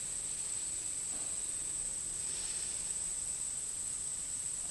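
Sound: crickets chirping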